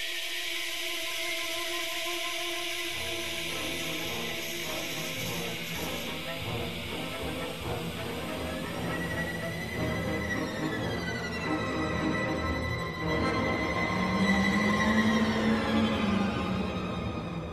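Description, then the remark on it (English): A field recording of cicadas in summer heat, used as the starting point of a symphony: a dense, unbroken electric buzz that holds steady and loud throughout, with layered pulsing tones and a few slow rising and falling pitch sweeps toward the end. “And that's where she started with this symphony, was the call of the cicadas, which you can hear the actual recording that she made and then how she interprets that into the music.”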